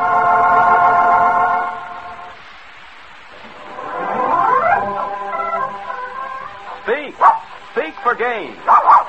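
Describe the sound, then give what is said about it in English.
A dog named Fido barks in a quick burst of short, loud yaps toward the end, in an advertisement for Gaines Complete Meal dog food, preceded by steady droning tones and rising, whining sweeps, with no talking. “Fido speaks for Gaines, G-A-I-N-E-S.”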